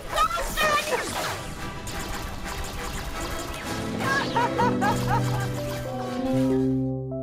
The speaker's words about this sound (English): It barks. Like that's a fucking killer chicken. I'm sorry, that was a chicken. That was a chicken. I apologize. Like, bark, bark, bark, bark, bark.